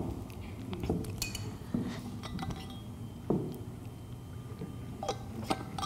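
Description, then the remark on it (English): Someone takes a sip of a drink, with several light glassy clinks as a cup is handled and set down, scattered over a few quiet seconds with no talking. “And give me a second to take a sip of this.”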